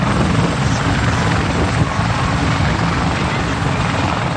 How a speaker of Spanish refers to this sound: Esto que escuchan son los dos helicópteros que esta mañana han aterrizado en la dehesa de Collado Villalba para participar en un simulacro de extinción de incendios